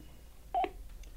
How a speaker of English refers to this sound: That would be me forgetting to turn off the phone.